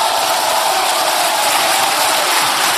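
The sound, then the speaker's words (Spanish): A dense, steady wash of applause and cheers ("hurras") from the Socialist benches in Spain's Congreso de los Diputados after Pedro Sánchez is granted the chamber's confidence as prime minister, loud and continuous throughout with no pauses or individual voices standing out. “Ahí están los hurras y los aplausos de la bancada socialista.”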